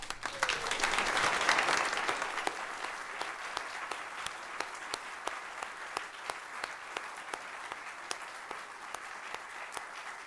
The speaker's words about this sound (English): You'll have many more opportunities to applaud him this weekend.